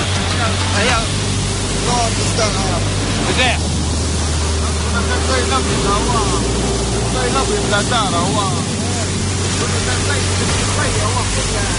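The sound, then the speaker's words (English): At midnight, a boat's engine drones steadily as the hull pushes through the sea up the coast of Zabrata, Libya, in waters known to be used by smugglers, with a constant loud rush of water and spray; voices speak indistinctly over the noise. “It's midnight, and we're heading up the coast into a stretch of water known to be used by smugglers.”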